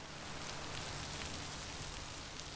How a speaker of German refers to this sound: Nueva Bellavista steht unter Wasser. Die Chocó-Region ist die regenreichste auf dem ganzen Kontinent. Die Chocanos sind längst abgehärtet. Es regnet hier 12.000 Millimeter pro Jahr, dreimal mehr als am Amazonas.